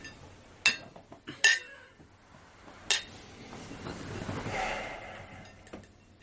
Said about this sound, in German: So, da sind wir wieder zurück und würden sagen, wir stoßen jetzt mal mit unserem frischen Glas, eiskalt, mit Olive an.